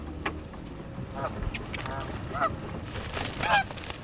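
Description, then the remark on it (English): Urban geese near their nests honk in short, harsh bursts, a few scattered calls growing louder toward the end, over a steady rumbling background noise with no talking. “Urban geese will nest just about anywhere, under bridges or piers, or in clusters of cattails along shore.”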